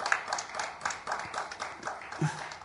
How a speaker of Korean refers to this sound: 박수로 하나님께 영광 돌립시다.